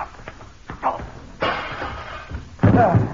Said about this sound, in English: Oh, dear, I'm afraid he broke the glass of the French doors when he fell through them.